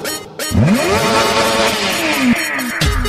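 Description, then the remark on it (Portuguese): A car engine revs hard, its pitch sweeping upward in a loud rising whine, dropping briefly and then surging again, continuous with no talking. “Acelera o motor do carro.”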